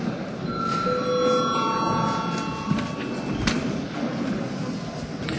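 A parliament session bell rings to call a break, with steady, high-pitched tones that sustain for about two seconds before fading, over a constant low murmur and a couple of soft thumps.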